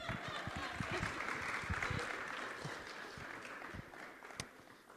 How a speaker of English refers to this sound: So give him a hand of applause.